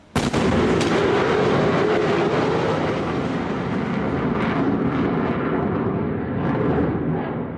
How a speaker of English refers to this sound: That's a sonic boom at around 1:30 in the morning, but the sound is actually a lot louder than that. It shatters glass and sets off car alarms. Sonic booms went on for several days in Gaza at the end of September.